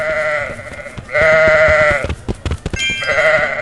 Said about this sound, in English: And then here's what I guess to be a sheep.